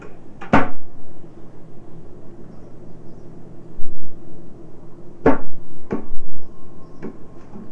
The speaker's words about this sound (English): Doors. All those doors.